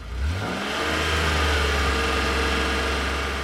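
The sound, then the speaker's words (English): A car engine revs up sharply in the first moment, then settles into a loud, steady, throaty rumble, with no voices. “In the 1920s, Americans fell in love with the automobile.”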